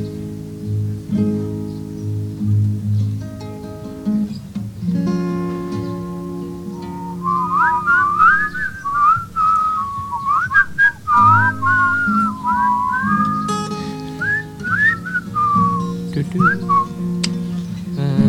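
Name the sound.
whistling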